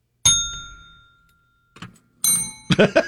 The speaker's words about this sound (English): Now let's tune up our bells.